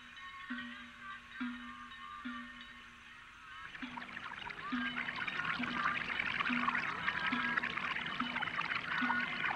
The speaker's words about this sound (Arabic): إنها عين ماء يا أبا طالب، إنها معجزة.